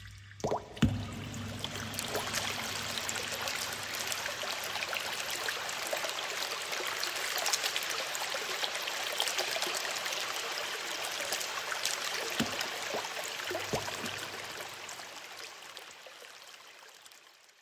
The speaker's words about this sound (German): Immer Wasser.